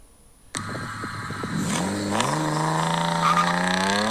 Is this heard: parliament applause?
no